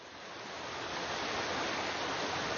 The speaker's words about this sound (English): In the mountains, snow melts away. Streams fill with water.